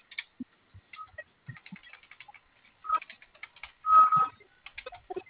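Rapid, irregular clicking of keys being typed on a keyboard to request an authorization, with a brief louder burst of clacks near the end and no voices.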